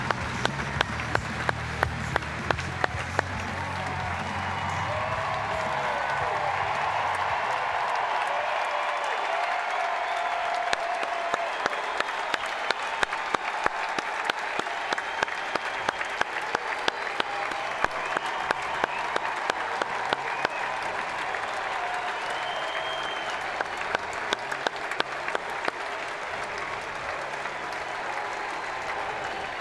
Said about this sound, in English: And that's a heartfelt handshake and a hug. And one last time, Vogelsong walks off to the applause and cheers of this great crowd at AT&T.